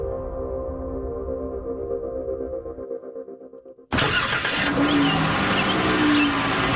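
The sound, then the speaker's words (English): A car engine revs with a steady, droning hum for a few seconds, then cuts out abruptly and gives way to a loud, rushing wash of noise. “The WTOP car review as we go, as we try to go green.”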